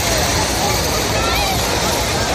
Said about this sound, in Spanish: El de la playa abarrotada